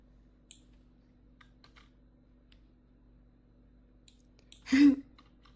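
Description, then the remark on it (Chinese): Light computer mouse clicks tick sporadically against a quiet hum, followed near the end by a brief, louder rustling burst. No one speaks. “你没换电脑呀？还是上次那个？鼠标给我。”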